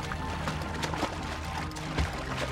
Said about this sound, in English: After a few minutes, she heard splashes. She wasn't alone in the lake. Everywhere she looked, she saw more and more animals. They were swimming too.